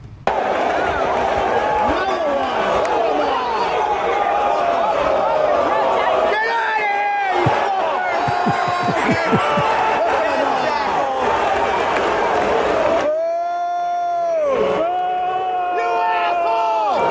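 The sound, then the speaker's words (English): A loud, dense protest crowd yells "You assholes!" and boos continuously at a stunt, many voices overlapping in angry shouts, with sustained jeering tones rising near the end. “So those are the people they were trying to win over with this stunt, yelling, "You assholes!" and booing them.”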